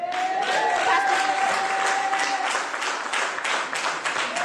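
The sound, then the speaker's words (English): A crowd gives everyone a big round of applause, steady, dense overlapping clapping at a fairly loud, even level throughout, with a faint sustained tone audible beneath for the first half. “Let's give everyone a big round of applause.”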